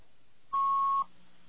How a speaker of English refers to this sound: That's what a fax sounds like when it comes in. So if you ever get a phone call with these little beeps on it, you're getting a fax.